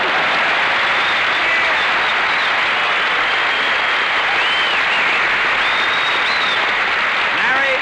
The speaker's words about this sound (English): This is the end. Applause.